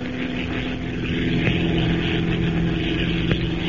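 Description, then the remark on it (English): A gray twin-engine transport plane drones steadily in flight through a cloudless night sky, leaving the deserts of Arabia behind and heading toward Egypt; its engines produce a continuous, even hum with a low harmonic buzz, sustained and fairly loud throughout with no voices. “With its twin motors purring in an even, steady rhythm, the gray transport plane slips through the cloudless night sky like some giant bird, leaving the rolling deserts of Arabia behind it and pointing its blunt nose toward Egypt.”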